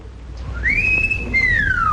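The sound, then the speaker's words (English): A whistled wolf call heard off in the distance outdoors: a clear, high tone slides up and holds, then a second long note glides steadily downward. It sounds over a low, steady background rumble, with no talking. “And off in the distance, we hear the call of the wolf.”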